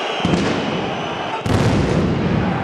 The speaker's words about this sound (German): Es war die 58. Minute beim Spielstand von 0:0. Plötzlich detonierten Böller vor dem Union-Block.